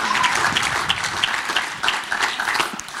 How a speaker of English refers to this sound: How good was that? So good. How about we give them a huge clap? Thank you so much.